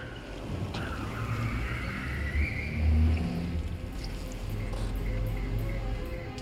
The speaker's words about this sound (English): Back at CIA headquarters, Shepard pulls into an underground car park.